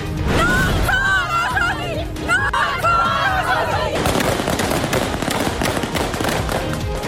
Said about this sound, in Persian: و شلیک تیر هوایی در تجمع زنان در کابل. در آستانه یک سالگی حکومت دوم طالبان، نیروهای این گروه زنان معترض را با خشونت متفرق کردند.